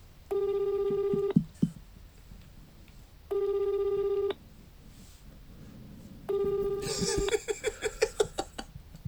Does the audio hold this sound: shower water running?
no